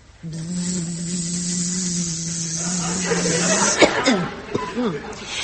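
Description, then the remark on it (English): A steady, even buzz from a little bee drones for about three and a half seconds, then gives way to a few short breathy chuckles and vocal sounds. “Do you know who my friend is? Of course you do. He's a little bee, isn't he?”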